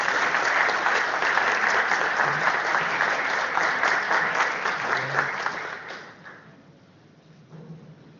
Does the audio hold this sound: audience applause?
yes